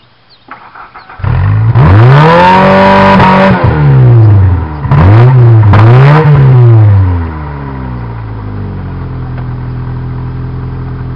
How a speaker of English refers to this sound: Let's do a start up and we'll get a rev test. It has a cat on but no muffler. Rev it up! Give it to me, I'll show them how to rev it.